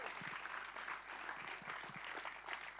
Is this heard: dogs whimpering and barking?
no